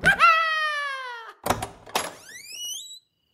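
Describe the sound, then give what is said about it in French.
A creaky fourth door swings open onto a bedroom with a long, drawn-out squeal that slides downward, two short clunks, then a second rising creak before it stops. Fairly loud, with no one speaking. “La quatrième porte s'ouvre sur ta chambre.”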